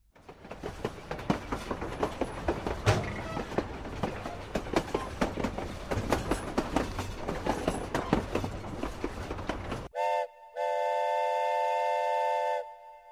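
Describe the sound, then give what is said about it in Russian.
A train car rolls along the rails with a steady, rhythmic clatter of wheels for about ten seconds, then a loud, sustained horn-like whistle sounds in two long blasts. “За окном вагона неторопливо плыли однообразные картинки.”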